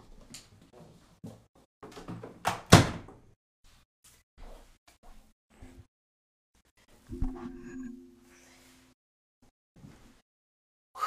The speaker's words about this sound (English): And here's the thing. Obviously, I can close the door.